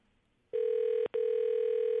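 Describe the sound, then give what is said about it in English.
An unanswered phone call's ringing tone: a loud, steady electronic buzz-tone begins after a moment of quiet, breaks off briefly, then resumes and holds. No one speaks. “This is our culprit right here on the phone.”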